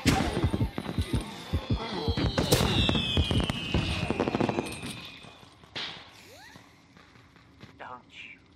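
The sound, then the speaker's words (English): Fireworks going off in a rapid, dense burst of bangs and crackles with a whistling streak, loud for about five seconds before thinning out into scattered fainter pops. “Fireworks.”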